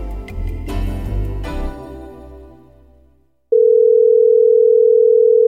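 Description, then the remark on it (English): A brief burst of music fades out, then a steady, unbroken telephone dial tone sounds on its own, loud, holding for about two seconds with no talking. “Today, I want you to listen to a special phone call.”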